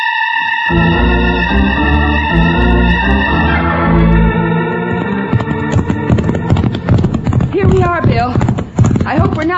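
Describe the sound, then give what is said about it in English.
Horses gallop with loud, rapid hoofbeats clip-clopping as riders urge them to go faster. The rhythmic pounding builds after a few seconds, following a sustained tonal, musical passage at the start. “Let's go faster, Buckshot. Come on. Move out, Joker. Go, boy.”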